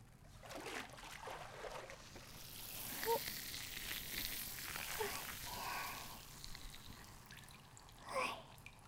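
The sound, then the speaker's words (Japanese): Water pours and splashes steadily, with a fizzing, crackling hiss like foam being washed away, and a few brief louder gushes near the middle and end. “シュワシュワ全部流しちゃうね。”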